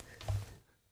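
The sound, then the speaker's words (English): A single sharp sneeze bursts out, loud for a moment and then fading into near silence. “I'm a repeat sneezer, guys. I don't know if you guys are as well, but I don't ever sneeze just once.”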